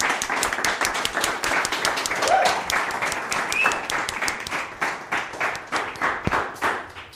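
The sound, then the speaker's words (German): Sustained audience applause for all the photographers, a dense wash of many hands clapping steadily for several seconds with a few sharper individual claps standing out, fairly loud and without any talking. “An der Stelle würde ich einmal trotzdem nochmal hier um fetten Applaus für alle Fotografinnen und Fotografen.”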